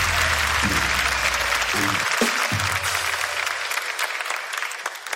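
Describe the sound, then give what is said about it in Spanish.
Steady, dense applause from a crowd, a broad wash of clapping that holds loud for about five seconds, with a low hum and brief thumps underneath. “Un aplauso para él.”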